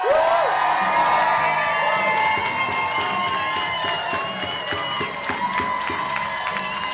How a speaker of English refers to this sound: When it was announced that Lisa Brown was leading in Spokane County by almost 8 percentage points, the crowd erupted.